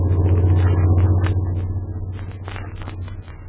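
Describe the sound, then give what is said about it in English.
A steady, heavy truck engine rumble drones as the truck drives along, with a strong low hum that holds throughout and faint higher rattles and clicks on top. “Especially with those two fellas in that truck following me.”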